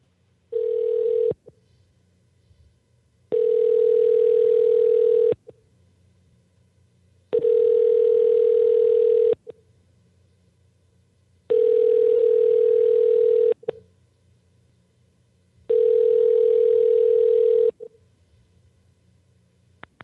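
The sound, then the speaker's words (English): A steady telephone ringback tone from a call being placed again after a failed first attempt, repeating five times, each long burst about two seconds with quiet gaps between, loud and clear with no talking over it. “He said he would be available at the right time, so probably on the phone or something.”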